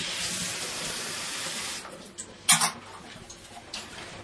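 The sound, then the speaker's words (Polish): Water runs steadily into a kettle for coffee for about two seconds with a hissing rush, then stops, followed by a sharp clunk and a few quieter handling sounds. No one speaks. “Tylko wstawię wodę na kawkę.”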